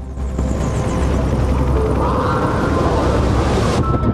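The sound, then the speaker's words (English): A helicopter's rotor makes a loud, steady rumbling thrum with a deep chopping throb that fills the whole stretch without letting up, though no helicopter is visible in the sky. “She can hear a helicopter, but there's no sign of one above.”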